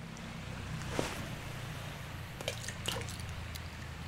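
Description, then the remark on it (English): Three small coins are tossed one at a time into a body of water below, each a quick, faint splash over a steady low rumble of outdoor background noise. No one speaks. “if I throw coins into the body of water below”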